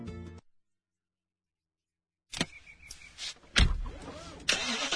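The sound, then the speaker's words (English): After a brief silence, a car engine cranks and catches, then runs with a rough rumble punctuated by a few sharp mechanical bursts. No one speaks. “Today, I'm test driving a certified pre-owned BMW along with an array of other cars.”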